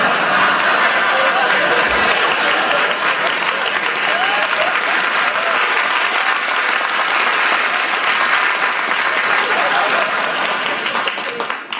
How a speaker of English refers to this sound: You got more applause than I do.